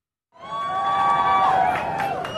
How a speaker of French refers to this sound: Des applaudissements qui saluent l'arrivée de Joe Biden et de son épouse à Uvalde.